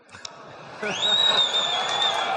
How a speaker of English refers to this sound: That said, there was some cheering from the crowd, although it was elicited from this question. I just was wondering, is this an out-of-season April Fool's joke?